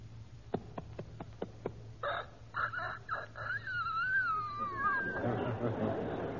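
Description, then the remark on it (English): A four-month-old rooster's crow: after a few sharp ticks, a thin, strained call breaks in, wobbling and cracking in pitch for a couple of seconds before fading into a breathy, noisy tail. “You've got here The Life of a Rooster in four parts. One day, 4 months, a year, and 4 or 5 years old.”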